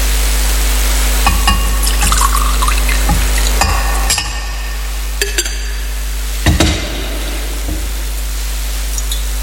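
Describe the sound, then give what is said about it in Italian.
Water is poured into wine: a faint liquid trickle with scattered light clinks of glass and metal vessels over a steady low hum, with no talking. “L'acqua unita al vino sia il segno della nostra unione con la vita di Dio, sono la nostra natura umana.”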